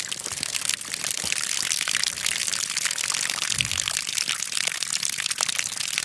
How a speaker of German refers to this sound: Hier pinkelt schon wieder was. Hier pinkelt jetzt die Regenrinne runter, weil es so leichtes Tauwetter ist.